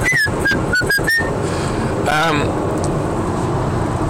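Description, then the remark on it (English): Several short, breathy whistle attempts made by blowing air through the lips come in quick succession, followed by a brief wavering tone, all over a steady airy hiss. “That's just blowing through my lips.”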